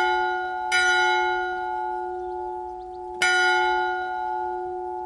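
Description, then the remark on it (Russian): A large tower bell in a town bell tower, rung by the lamplighter at nightfall, strikes twice, a few seconds apart. Each clang blooms into a long, rich hum that rings on steadily between blows, with no voices present. “И, наконец, три удара ознаменовали наступление ночи, пусть и самой короткой в году.”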